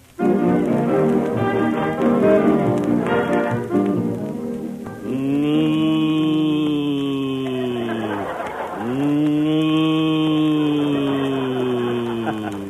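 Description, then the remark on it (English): Announcer Don Wilson imitates a cow, giving two long, low, drawn-out moos back to back, loud, following a few seconds of music, in the radio Western sketch Buck Benny Rides Again. “It was Don Wilson, folks, just an old cow ham.”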